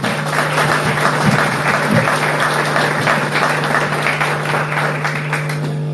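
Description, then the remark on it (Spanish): A crowd applauds the participants of MEVIR steadily for several seconds, a dense, even wash of many hands clapping, with a low steady hum running underneath. “A los participantes de MEVIR, muchas felicitaciones. Un aplauso para ustedes.”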